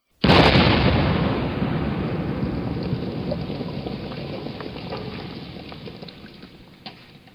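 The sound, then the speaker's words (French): A single thunderous cannon blast from a warship erupts suddenly, then rolls into a long, slowly fading rumble, with a faint further thud near the end; a huge cannonball lands on a dike. “Une détonation terrible retentit, et un énorme boulet de canon retomba en plein sur la digue, pile au milieu.”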